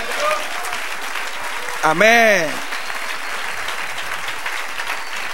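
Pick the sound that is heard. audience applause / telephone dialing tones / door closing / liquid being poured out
audience applause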